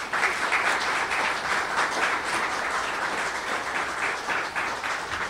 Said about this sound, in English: I'd like to have a big round of applause for Chairman Keith McNall.